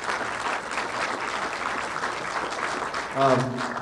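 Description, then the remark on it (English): An audience claps steadily in a dense, continuous wash of applause for about four seconds, with a brief voiced whoop or call rising out of it near the end. “Well, that's too bad because we should give them a round of applause because this was their vision.”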